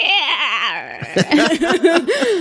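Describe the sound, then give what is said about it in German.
A voice imitates a lightly dampened dish sponge squeaking inside a dry glass, a creature-like noise: warbling, wobbly high-pitched squeals give way to a run of short, choppy squeaks and chirps, loud and without any words. “habe ich gemerkt, so das macht ein richtig cooles, so ein Kreaturengeräusch, wenn du ein trockenes Glas oder sowas hast und dann aber mit so einem Spülschwamm, der so leicht angefeuchtet ist, so da drin rum, denkst du, macht das so ein krasses Sound.”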